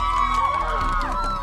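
A loud, steady roar of many voices cheering and yelling at once, high shouts rising and falling throughout with no pause for the whole moment.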